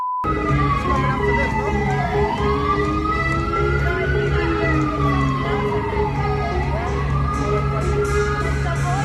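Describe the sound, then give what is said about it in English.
An ambulance siren wails in slow rising and falling sweeps, loud, over a steady low rumble of street traffic with car horns beeping and honking. “She sends me voice notes on a daily basis, and they all have ambulance sounds in the background and beeps and honks.”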